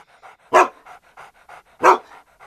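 Pete, a pet dog, pants in quick, steady breaths, interrupted twice by a sharp, loud bark that stands out over the rhythmic huffing.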